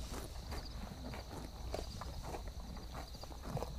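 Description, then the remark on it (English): Working horses' hooves clip-clop at an uneven walking pace, moderately loud, over a steady background hum with a faint high-pitched tone. “Awful good horses to do anything for.”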